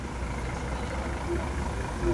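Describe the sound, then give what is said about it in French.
Busy street crossing with buses and trams: a steady low rumble of heavy engines idling and moving, with faint muffled voices and a couple of brief high tones. “Nous allons survivre à cette traversée de bus et de tramway.”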